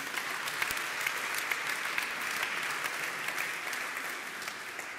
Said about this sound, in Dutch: Zullen we God een applaus geven?